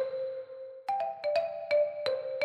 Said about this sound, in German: Also deswegen, pass auf, ich mache mal Glockenspiel.